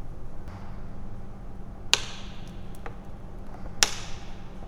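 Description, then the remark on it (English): At an exhibition, a steady low mechanical rumble of a moving trolley runs throughout, broken by two sharp, crackling snaps of a plastic water bottle being crushed by the trolley, spaced about two seconds apart, picked up by a shotgun microphone hanging above. “So now as it's moving, it's starting to crush the plastic water bottle.”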